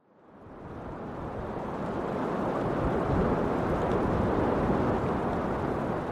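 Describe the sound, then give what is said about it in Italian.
A steady, broad roar of night wind sweeps through forest treetops in the forest of Thon, about twenty minutes from Le Grand-Bornand, swelling in over the first second and then holding as a continuous dense rush with no voices. “Le cime degli alberi disegnano un profilo nero dentro al nero del cielo notturno, disturbate dall'eco del vento.”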